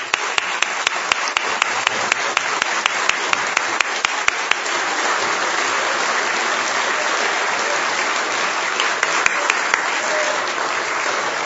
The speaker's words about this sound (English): All you young people, stand so we can give you applause.